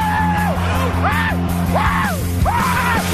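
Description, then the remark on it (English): Loud, excited screams of joy from Mariners fans after a game ring out in four quick rising-and-falling bursts, energetic, layered over a steady droning background din. “What is that sound of screaming? All the Mariners fans, Brock, screaming with joy after maybe the most fun game of the year.”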